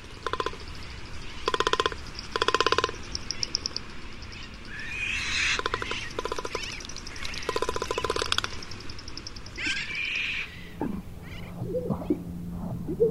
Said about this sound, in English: Inflated throat sacs beaten and rattled with a long beak. Magnificent frigate bird.